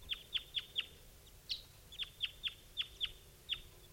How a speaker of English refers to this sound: Meanwhile, some other bird is flying over.